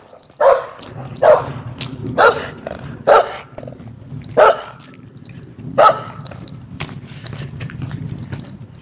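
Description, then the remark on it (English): A dog barks about six times in short, loud bursts spaced irregularly over several seconds, with a steady low rumble of background noise underneath and no talking. “Easy, dog.”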